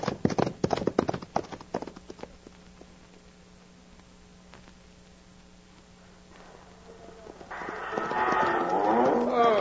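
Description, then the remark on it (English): Horses gallop along a dusty trail with a loud, rapid drumming of hooves that quickly fades away, followed by a swelling, rough bellowing noise near the end. “Now, turn those ponies and pound that dust.”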